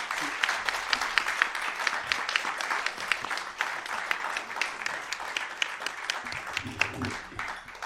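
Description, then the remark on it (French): Sustained audience applause at a film screening for the film's three directors, a dense, steady patter of many hands clapping for several seconds at moderate loudness, with faint low murmurs of voices underneath toward the end. “Non, peut-être, même si on n'a pas vu le générique, peut-être applaudir à nouveau les trois réalisateurs de ce beau film.”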